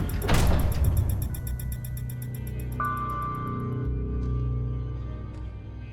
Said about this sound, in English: Close the door. The center door with the painted insignia swung on its own and slammed shut.